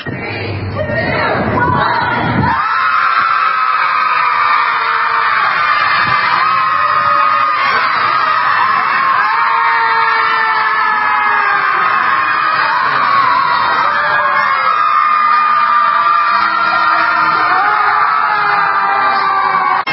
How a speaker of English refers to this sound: Tonight, thousands of people in cities across the country will scream helplessly at the sky 1 year after the election of President Donald Trump.